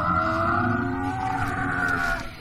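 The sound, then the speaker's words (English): A loud, drawn-out roar from an animatronic Carnotaurus dinosaur model, a deep growling bellow with a strong tonal ring that holds steady for a couple of seconds before trailing off, with no talking. “If you heard that, that's its roar.”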